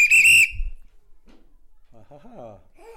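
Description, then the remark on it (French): A single loud, shrill whistle blast from a station master signalling a train's departure, sharp and piercing, lasting about half a second, followed by quiet and then a few moments of someone speaking. “Et quand c'était l'heure, je prenais mon sifflet et...”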